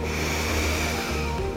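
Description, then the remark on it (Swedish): A long, steady breath drawn in through the nose during a guided breathing exercise, an airy rushing that holds evenly for under two seconds with no talking. “Andas in med näsan.”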